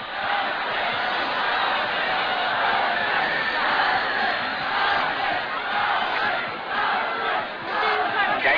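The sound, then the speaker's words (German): A dense crowd of spectators at a cockfight shouts loudly and continuously, rhythmically yelling the colours they bet on to win, voices overlapping in a chant-like roar that stays intense throughout. “Im Rhythmus brüllen die Zuschauer die Farben, auf deren Sieg man bettet.”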